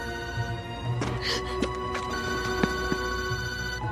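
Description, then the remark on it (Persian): A telephone rings insistently with bright, repeating bell tones, fairly loud, the ringing continuing steadily with no voices. “بابا آرتمیس به تلفن جواب نده”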